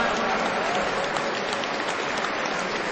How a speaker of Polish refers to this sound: Brawa dla tych, którzy przyczynili się do zorganizowania naszego spotkania.